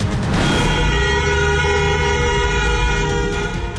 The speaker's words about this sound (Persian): بوخ‌های ممتد خودروها در 20 شب اعتراضات ایران.